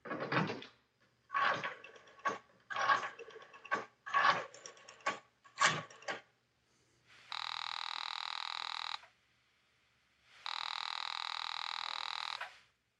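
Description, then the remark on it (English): A telephone is dialed to call a country club in a quick series of clattering, whirring bursts, followed by two long, steady ringing tones on the line with a pause between them. No one speaks. “You reach for the phone and call the club.”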